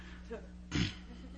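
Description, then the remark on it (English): One sudden, forceful sneeze from a young man bursts out, short and breathy, standing well above a steady low hum and faint murmuring. “At first, bless you.”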